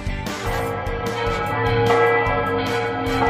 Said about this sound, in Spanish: Así repican las campanas de la Catedral de Sigüenza, entre la solemnidad, pero también la alegría, porque entramos en un año jubilar